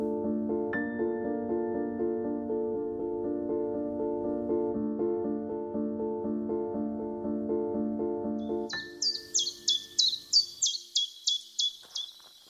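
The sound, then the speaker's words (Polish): A sustained musical drone gives way to a bird chirping shyly in a forest of leafless trees, a quick, steady series of about ten bright, high tweets, clear, with no talking. “Ptaki przyjęły ją nieśmiałym świergotem, a bezlistne, potężne konary radośnie zakołysały gałązkami.”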